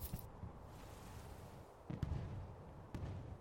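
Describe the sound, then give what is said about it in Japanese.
Fireworks thud and crackle in a few scattered bursts, with two sharper pops standing out over a low, steady rumble. No voices are heard. “あー、本当に花火よく見える。絶好の場所だね。”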